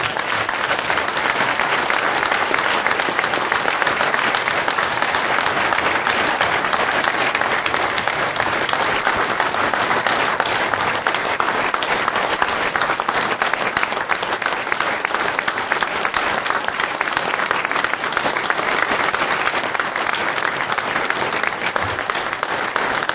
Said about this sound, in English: So I'd like to actually give a big round of applause to everybody here.